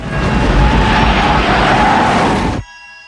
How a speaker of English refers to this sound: The gas station is consumed by billowing explosions as Jim's car hares out of the smoke with its bonnet on fire.